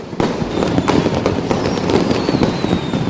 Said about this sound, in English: Here, last night in Beijing, fireworks for ringing in the Year of the Dragon.